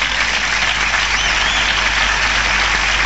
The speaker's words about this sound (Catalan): Ara aplaudiments en aquesta plaça de l'Església. Ara se li fa entrega d'una rosa a …. Doncs aplaudiments, dèiem, gent dempeus, al voltant de 500 persones,